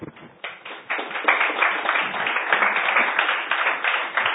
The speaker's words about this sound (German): Da fühlt sich immer ein bisschen wohler, wenn man gleich einen Applaus gekriegt hat.